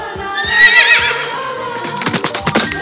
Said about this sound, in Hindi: उन्होंने देखा घोड़ा भाग रहा था। तुगड़ तुगड़।